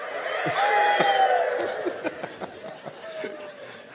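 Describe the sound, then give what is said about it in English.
An audience, on a count of three, imitates a rooster crowing all at once, a loud overlapping chorus of drawn-out voices that fades into scattered chuckles and laughter. “Let's everyone do their rooster imitation on three.”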